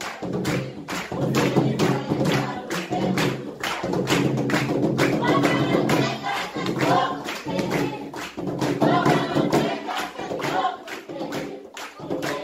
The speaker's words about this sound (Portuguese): E a dança segue com pisadas no chão, abrindo os braços, rodando as saias. Enquanto eles bailam, as pessoas que rodeiam seguram o ritmo na palma da mão.